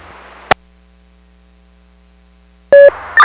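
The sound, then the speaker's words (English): Over a low radio hum, a sharp click is followed by near-silence, then loud, steady electronic fire department paging tones begin near the end, one pitch shifting to another, toning out South Haven to a commercial building on Lake Street in Covert with fire alarms going and smoke and fire showing. “South Haven, will you read tone with fire tones, please?”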